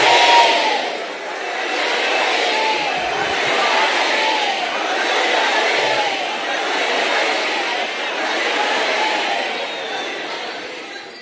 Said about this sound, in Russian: и они стали еще громче кричать «Хари, Хари». Они стали еще громче кричать. Снова и снова.